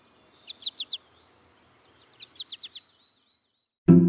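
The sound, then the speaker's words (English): An American goldfinch gives its flight call: a sweet, high call repeated twice, each a quick series of four clear descending notes, with a pause between phrases, followed by a brief low thump at the end. “American goldfinch males sing a bright, bubbly song and nearly always call in flight with a sweet four-syllable.”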